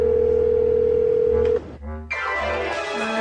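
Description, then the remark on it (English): A steady electronic telephone ringing tone from an outgoing phone call hums alone for about a second and a half, then cuts off, followed by a brief gap and a burst of brighter, busier sound. “So it's time to venture into uncharted territory by making an actual phone call.”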